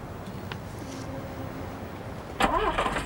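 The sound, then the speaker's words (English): A bus engine cranks and rumbles steadily with a faint whine, then a door slides shut with a sudden loud, scraping clatter near the end as a passenger gets off the bus and slides the door shut. A sign in the windscreen reads Ferry Bus; rain pours down. No voices. “gets off the bus and slides the door shut.”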